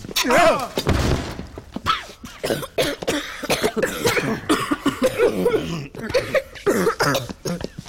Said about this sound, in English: Look out, the hinges are breaking now.